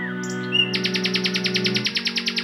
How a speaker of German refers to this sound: Ja, richtig erkannt. Ich bin eine Nachtigall. Es stimmt schon. Eigentlich singen wir Nachtigallen, wie unser Name schon verrät, vor allem nachts.